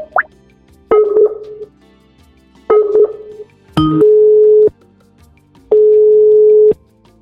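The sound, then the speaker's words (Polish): A short dialing blip, then a phone line's ringing tone: four steady electronic beeps, each about a second long with pauses between, clear with no voices, as a phone call is placed during a live broadcast after a guest dropped out of Google Meet. “także nie widzę innej możliwości, jak połączyć się przez telefon.”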